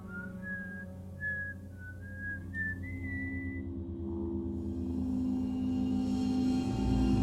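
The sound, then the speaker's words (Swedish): A person whistles a short, wavering melody of several clear notes for a few seconds. A low steady hum sits underneath and grows slightly louder after the whistling stops. “Och det som kanske störde mig lite mer, det var att jag hade som vana att gå och vissla för mig själv.”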